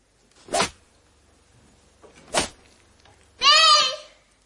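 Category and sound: human body sound, girl screaming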